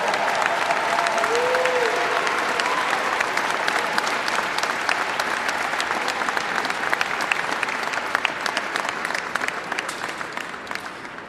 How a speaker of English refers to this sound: Come on, folks. Give Mr. Garrett a big round of applause.